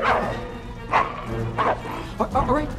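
dog barking aggressively

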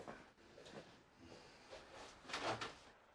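door being slammed shut

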